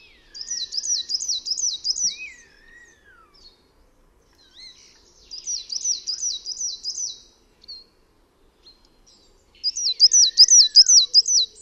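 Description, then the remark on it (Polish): A coal tit sings three bright, high strophes, each a quick run of repeated two-syllable phrases, separated by short pauses, with softer thin whistles in the background and no talking. “Śpiewający ptak zwykle powtarza kilka zwrotek jednego typu, a następnie przestawia się na zwrotki drugiego typu.”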